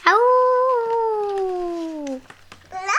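A single long wolf howl, sustained for about two seconds with a smooth, slowly falling pitch, then a brief pause before another call begins at the very end.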